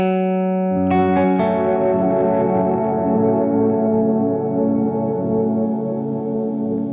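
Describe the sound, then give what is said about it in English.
A dense, hazy wash of sustained tones from a granular effects pedal set to its haze mode, with a new layer swelling in after a second and blurring into a thick, reverb-like shimmer that stays loud throughout. “So if we like, I'll just jump over to granules. This is the haze mode.”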